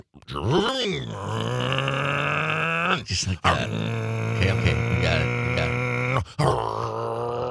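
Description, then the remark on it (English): A man vocally imitates a car engine revving up through gears: a loud, buzzing drone that climbs in pitch, breaks off briefly twice for each shift, then resumes, with a few spoken words at the end. “I was going through the gears.”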